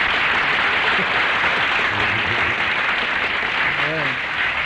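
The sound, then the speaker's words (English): Steady, dense audience applause fills the whole stretch at an even loudness, with faint voices murmuring underneath near the end. “you didn't even, you know, don't you think you should do a little nod, too, for that applause?”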